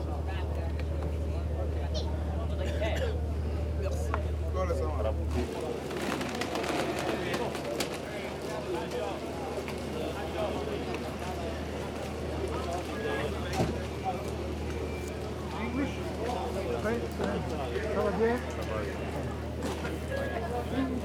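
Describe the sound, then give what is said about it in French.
A boat engine drones steadily for several seconds, then gives way to shuffling footsteps, clatter and murmuring voices as people leave the boat, taking the last stairs onto land. “Là, on sort du bateau.”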